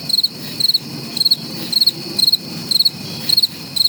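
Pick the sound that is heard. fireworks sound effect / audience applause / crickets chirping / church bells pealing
crickets chirping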